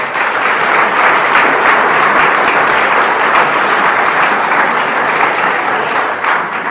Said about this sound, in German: 13 Schotten. Welcome. Herzlich willkommen. Vielleicht ein Applaus für...